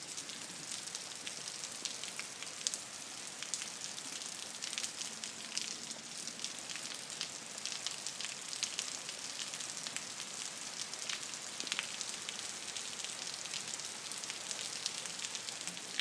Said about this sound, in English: Just in my spare room. It is the 23rd of August, 10 p.m. in the UK, and this is the rain from my spare room window.